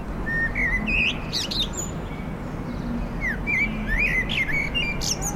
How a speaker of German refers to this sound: Ein Vögel pfeift in seinem frühlingshaften Übermut